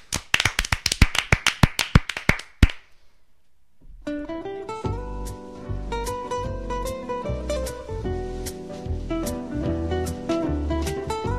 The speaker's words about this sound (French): Et un tonnerre d'applaudissements après ce coup de gueule.